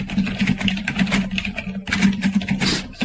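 Rapid, continuous clatter of typing on a computer keyboard, dense clicking keystrokes running over a steady low electrical hum for about three seconds, with no voices.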